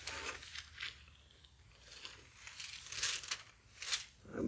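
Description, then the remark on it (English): Soft, papery rustling of Bible pages turning, arriving in several irregular bursts of crinkly noise, fairly quiet, with no one talking. “I'm hearing pages rustling with their minds.”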